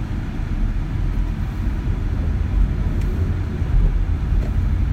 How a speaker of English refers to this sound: Just gonna ride to the ball game. Probably not gonna say much. You can listen in. Listen in to the sounds of the air conditioning.